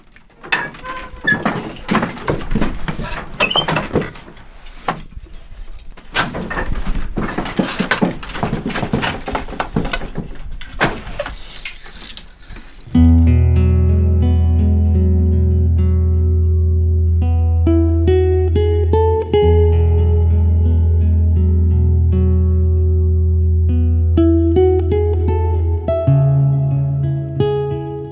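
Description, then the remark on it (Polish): Dense wooden clattering and knocking from a weaving loom for about thirteen seconds, irregular but busy, then it gives way to steady, sustained instrumental music that fills the rest. “Kot warsztatu już ustał.”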